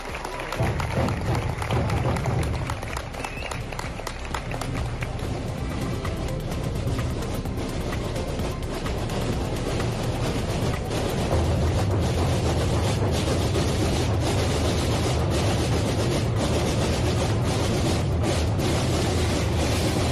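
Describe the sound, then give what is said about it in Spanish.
Procession drums of religious brotherhoods beat in a dense, continuous roll at a procession in Logroño, at Muro de la Mata and Marqués de Vallejo, loud and steady with a deep booming low end and sharp repeated strikes throughout, with some crowd murmur underneath. “Allí los corazones de los asistentes, de los vecinos de Logroño, también latían al unísono, envueltos en un silencio solo roto por este eco solemne que vas a escuchar. Es el de los tambores de las cofradías.”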